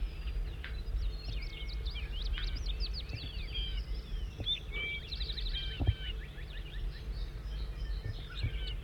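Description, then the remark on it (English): A bird, logged as bird 5-9, sings in rapid, high twittering phrases of quick chirps and short trills, continuing throughout over a steady low background hum. “Start recording bird 5-9 in song.”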